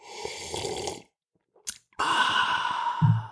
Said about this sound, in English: I picked up my coffee. I was going to take a sip. This is my audio version of sipping.